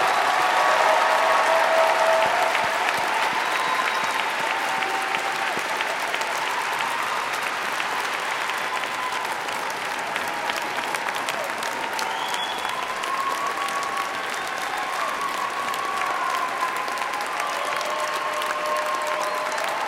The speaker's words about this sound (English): Congratulations to all of the candidates. I think we should have a round of applause for all of them.